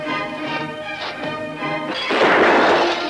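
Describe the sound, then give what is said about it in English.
A steady tonal hum gives way to a sudden loud crash as one of 8,000 glass panes is hit and shatters, with bright, jagged shattering noise that lingers for about a second. No one speaks. “8,000 panes and you hit one of them.”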